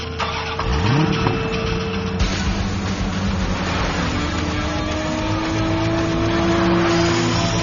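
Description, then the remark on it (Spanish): A Suzuki Swift Booster Jet Sport 2019 engine fires up and revs hard, its pitch sweeping up in a quick surge before settling into a steady, throaty growl that stays loud throughout, with no voices. “Sentir la potencia de un deportivo no es para todos.”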